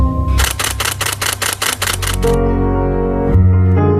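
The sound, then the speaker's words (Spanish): A rapid burst of camera shutter clicks, about ten in quick even succession, crisp over a low musical bed that continues alone after the clicking stops. “Él siempre dice que los fotoperiodistas han de ser capaces de reír y llorar en un intervalo de décimas de segundo, casi a la velocidad del obturador.”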